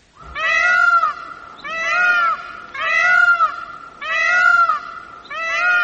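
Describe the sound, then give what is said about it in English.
A peacock calls loudly and repeatedly, five harsh, wailing cries in a steady rhythm, each a drawn-out, cat-like yowl, with no talking. “this is the unlovely song of the peacock.”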